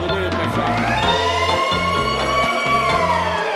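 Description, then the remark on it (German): A loud siren wails steadily for several seconds in a wholesale fish market hall at 3:15 at night, its rising, sweeping tone filling the space, with a low rumbling background underneath; it is the night's second siren, as the hall's gates open. “Die zweite Sirene dieser Nacht heult auf, die Gittertore der Halle öffnen sich und eine wilde Horde stürmt herein.”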